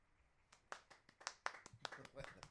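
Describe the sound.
Sparse, polite hand clapping from a small group: a dozen or so scattered, irregular claps over a couple of seconds, fairly quiet, with a faint murmur of voices underneath.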